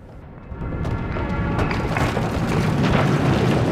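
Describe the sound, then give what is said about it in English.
In the TV series Heroes, a deep, loud rumbling boom swells in after a brief moment as a room quakes and a basement brick wall bursts open. It keeps churning steadily, with a gritty crackle over the low roar as if walls were shaking and breaking apart. No voices. “At home, Matt's grabbing food out of his fridge, when suddenly the room quakes.”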